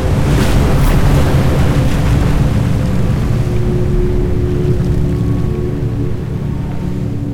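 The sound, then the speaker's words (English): A loud, steady roar of rushing water and surging ocean waves fills the whole stretch, continuous, easing only slightly toward the end, with no voices. “Water poured from the glass like a tidal wave.”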